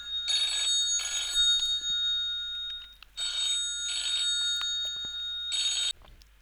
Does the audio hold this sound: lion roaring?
no